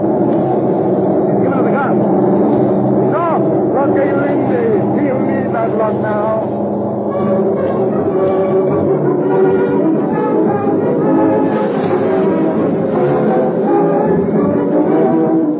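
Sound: airplane engine warming up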